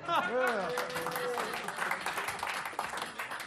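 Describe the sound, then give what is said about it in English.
A polite audience round of applause, steady dense clapping that holds at an even level for a few seconds, with a brief rising vocal whoop and voices at the start. “An appropriate sort of cricketing audience round of applause as well.”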